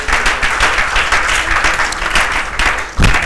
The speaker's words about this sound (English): Let's give clap offering to the Lord.